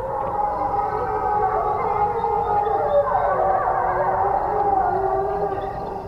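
A wolf pack howls in chorus in reply, several long wavering voices overlapping and sliding in pitch, holding steady and fairly loud for the whole stretch, with no talking.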